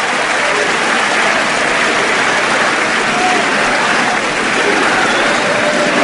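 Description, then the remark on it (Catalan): A large outdoor crowd in the Plaça del Blat in Valls, Catalonia, roars steadily for six seconds, loud, shouting freedom and independence chants blended with dense applause and cheering, with no pause in the noise. “Crits de llibertat també des de part del públic, realment la plaça ha estat un clam.”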